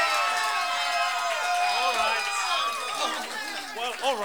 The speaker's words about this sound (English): I've twisted some arms, folks, and I know the audience is all out in the boonies out there just screaming and hollering.